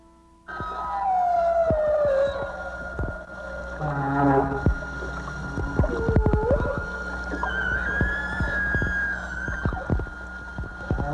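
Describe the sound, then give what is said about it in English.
Humpback whale song recorded underwater with a hydrophone by whale researcher a whale researcher in Glacier Bay: long sliding moans and rising whistles overlap with sharp clicks and knocks, filling a resonant, echoing sea with loud, continuous calls and no voices. “As most of you probably realize, those are the sound of whales, specifically humpback whales.”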